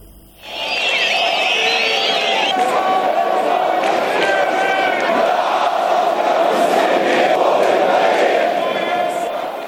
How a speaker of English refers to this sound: Thousands of Jordanians have marched on the Israeli embassy in the capital, Amman, for a sixth straight night in solidarity with the Palestinians of Gaza.